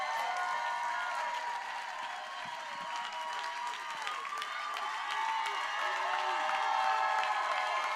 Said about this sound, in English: Hey, hey, church. While we're cheering,